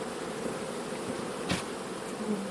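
Dense, steady buzzing of many honeybees at an open hive, a continuous drone with a brief sharper burst midway as one bee passes near; no one speaks.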